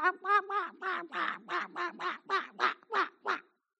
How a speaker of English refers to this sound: Tiki bird stuff.